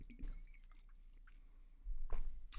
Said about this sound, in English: All right. Take a sip of that tequila, no chaser. Ready?